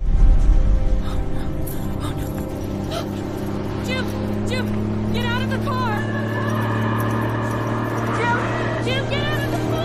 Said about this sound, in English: A tractor trailer approaches.